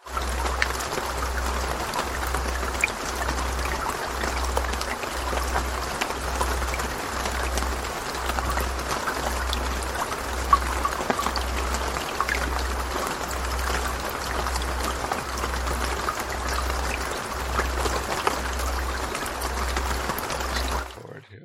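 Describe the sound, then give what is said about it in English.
A deep, low-pitched tone from a CD throbs in steady, even pulses about once a second beneath a constant wash of rushing, water-like noise, with no voices throughout. “Low frequency tone in the background as well, along with the golden mean.”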